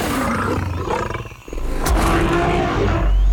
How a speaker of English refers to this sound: Was that a dinosaur? It sounded like a saber-toothed tiger.